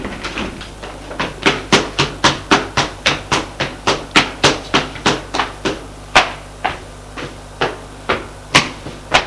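A long series of sharp knocks on an attic door, about twenty raps in a steady, insistent rhythm with a few brief pauses, fairly loud and with no voices.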